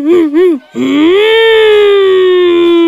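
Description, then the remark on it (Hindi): In a classroom lesson on means of transport, a child's voice imitates a motor car: two quick wavering hums, then a long sustained, slightly rising-and-falling drone held steadily like an engine, loud and alone. “और motor car?”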